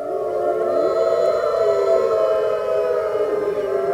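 Several wolves howl together in long, overlapping, wavering tones that slide up and down, forming a loud, continuous chorus for the whole stretch with no voices talking.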